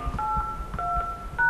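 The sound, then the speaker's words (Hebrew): A quick series of telephone keypad tones, several short dual-pitched beeps pressed one after another at an uneven pace, as a password is entered on a phone lesson line. No one speaks. “נא הקישו את הסיסמה”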